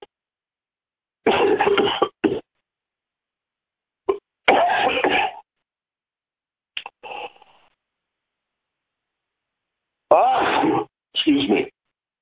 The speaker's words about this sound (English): Gesundheit.